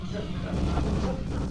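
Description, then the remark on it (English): Gunfire from the video game Doom plays on a TV in a bedroom as a dense, continuous rumble of muffled booms and crackling noise, steady and moderately loud throughout, with no clear words. “Inside a bedroom, the video game Doom plays on TV.”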